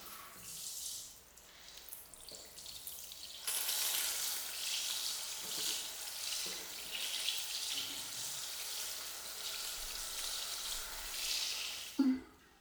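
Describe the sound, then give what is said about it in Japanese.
A shower spray rinses a person's back after scrubbing, a broad hissing rush of water that briefly eases near the start, then pours on continuously before a small knock as it stops. “それじゃあ、シャワーで流していくよ。”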